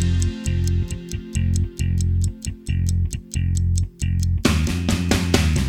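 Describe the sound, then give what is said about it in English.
Steady, crisp clock-like ticks repeat at a quick, even pace over a thumping bass-heavy music bed, which swells into a fuller, louder burst near the end. “Tick tock, tick tock in the clock shop.”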